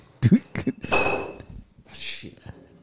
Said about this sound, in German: Du musst jetzt mal da mit dem Stuhl nach hinten rücken.